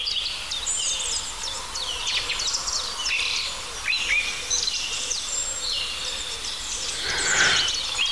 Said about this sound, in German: Ja, die Tauben rufen.